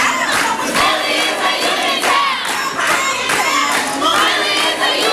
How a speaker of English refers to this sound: Kids from the Philadelphia Student Union interrupted the film screening last month, chanting to drown out a movie they viewed as an attack on their teachers.